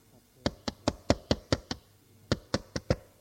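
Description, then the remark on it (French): Sharp, crisp knocking on the glass door of a school headmaster's office: a quick run of six raps, a short pause, then five more at the same brisk pace, with no voices. “J'ai frappé à une porte vitrée.”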